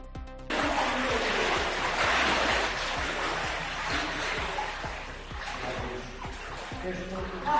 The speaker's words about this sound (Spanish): Y esto no es un río, pero casi es la acumulación de agua hasta las rodillas en un albergue de Dumbría. La localidad ha registrado inundaciones por el desbordamiento del río Xallas y la apertura del embalse de Afervenza.